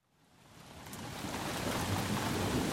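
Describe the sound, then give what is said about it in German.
A late-autumn thunderstorm with steady rain swells in from quiet to a dense, continuous downpour, with a deep low rumble of thunder underneath. No voices. “Endlich Spätherbst, endlich schlechtes Wetter.”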